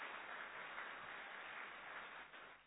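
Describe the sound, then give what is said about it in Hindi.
A crowd applauds loudly after a performance, with many hands clapping together in a dense, continuous patter that holds for a few seconds without any voices over it. “फिर से सभी जोरदार तालियां बजाएंगे।”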